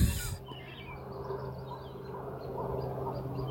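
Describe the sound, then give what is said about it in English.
Thin, high whistled bird calls repeat several times, heard over a steady low outdoor hum after a brief clunk at the start. No one speaks. “And there's that bird that I wanted to know. I feel like maybe it's a widgeon.”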